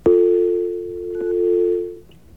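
A steady, low telephone dial tone hums for about two seconds, broken once by a short keypad beep before cutting off, as a White House number is called through AT&T. No one speaks.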